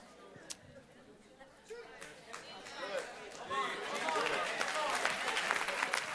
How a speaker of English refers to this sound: You see, your clapping is because you're afraid. Is it not true?